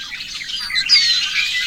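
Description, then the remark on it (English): A male red-winged blackbird gives its territorial call among the cattails of a marsh, a harsh, buzzy trill and thin whistled slurs, steady for under two seconds, with no voices present. “The territorial call of the male red-winged blackbird is distinctive. Many people think it sounds like the sound of a rusty gate.”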